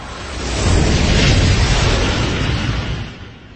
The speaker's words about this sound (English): then hops in the halo and kicks the thrusters into gear. They thunder to life, and the ship lifts into the air.